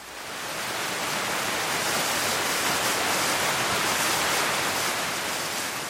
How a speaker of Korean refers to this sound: 오장폭포가 나온다. 오장산의 까마득한 낭떠러지를 타고 송천으로 떨어지는 폭포인데 길이 209m로 전국에서 가장 긴 인공폭포다. 석회지를 머금고 있어 초록 물빛을 띈다. 초록 물빛을 보며 폭포 소리를 듣고 있노라면 마음도 초록초록 싱그럽다.